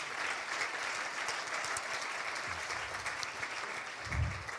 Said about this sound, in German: Und ich denke auch nochmal einen dicken, dicken Applaus.